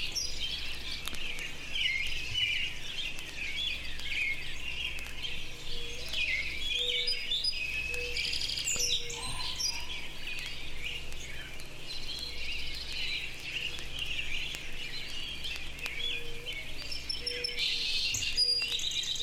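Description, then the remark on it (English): Many birds chirp and tweet continuously in an outdoor park, a dense, steady chorus of overlapping calls with a faint low hum underneath and no talking. “Much as I love walking around the park listening to birds and crap”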